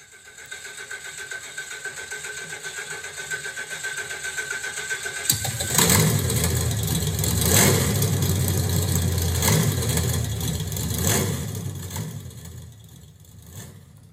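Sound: car engine cranking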